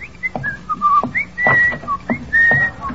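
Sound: person whistling a tune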